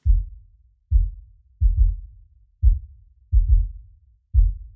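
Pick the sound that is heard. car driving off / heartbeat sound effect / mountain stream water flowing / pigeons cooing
heartbeat sound effect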